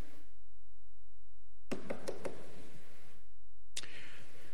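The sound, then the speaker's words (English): Knocking on a door: a quick burst of three sharp raps, a short pause, then one more, moderately loud, with no voices. “Government knocks on your doors, sometimes without warrants.”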